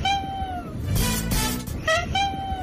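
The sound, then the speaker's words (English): A cat lets out a series of high, drawn-out creaky meows that sound like a squeaky door hinge, fairly loud, repeating several times in quick succession. “Not a noise you expect to hear coming out of a cat. Squeaky door sounding cat.”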